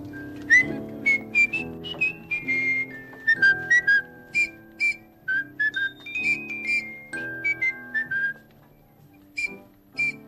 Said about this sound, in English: I hope Trolley will like his whistle.